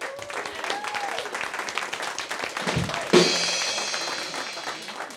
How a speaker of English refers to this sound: How about a round of applause for songwriters?